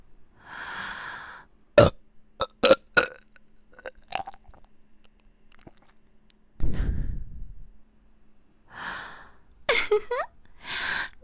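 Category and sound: human body sound, burping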